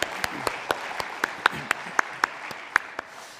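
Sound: audience applauding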